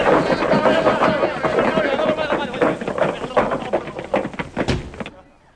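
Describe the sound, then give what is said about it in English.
A loud, busy clatter of locks and bolts being drawn, with rapid metallic clicks and clunks over a rumbling, noisy background as doors are opened, cutting off abruptly at the end. “Who unlocked the doors?”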